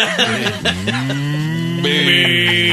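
A loud, drawn-out ghostly moan that sounds much like a cow mooing, with low wavering tones sliding upward and a brighter, strained layer joining near the end.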